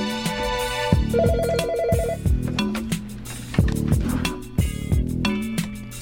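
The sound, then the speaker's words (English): A phone ringtone for an incoming call plays continuously, a loud, upbeat electronic melody with a steady beat, repeating bursts of notes and a brief warbling trill near the start, with no one talking over it. “Oh, we got a caller, baby. Yo, man, pass my phone, man.”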